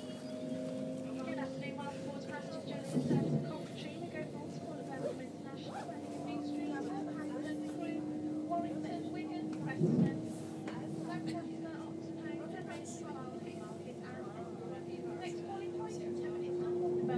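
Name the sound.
train interior rumble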